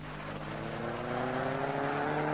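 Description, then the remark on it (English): A car engine hums steadily as the vehicle drives through traffic, a continuous droning rumble with a faint rise in pitch, and no voices. “Oh, how you keep the car straight,”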